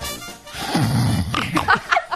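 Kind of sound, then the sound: vocal imitation, imitated pig grunting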